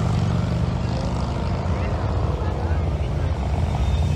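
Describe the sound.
A police helicopter thunders overhead, its rotor beating in a steady, rapid low-frequency chop that stays loud throughout, with a faint murmur of voices beneath.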